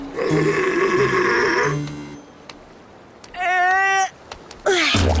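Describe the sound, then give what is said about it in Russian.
A walrus snores in three loud, rumbling bursts that echo hollowly inside barrels. The first is long and buzzing, the later two shorter, with a rising, groaning tone. “Бочки эхом разносили храп моржика. Вот откуда эти страшные звуки.”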